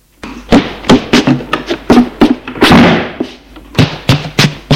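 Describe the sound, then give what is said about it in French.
A bedroom door slams shut as a man leaves the room, amid a rapid series of heavy thumps and knocks, with one longer, booming impact in the middle; no one speaks. “Et il sort de la chambre en claquant la porte.”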